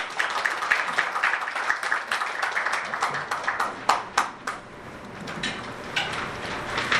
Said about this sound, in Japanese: はい、皆様、拍手でお迎えいただければと思います。